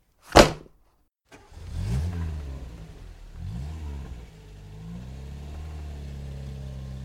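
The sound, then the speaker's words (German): A sharp thud, then a car engine cranks to life and revs upward twice in quick surges before settling into a steady driving drone as the car sets off in pursuit. No talking. “Los in den Wagen, schnell hinterher!”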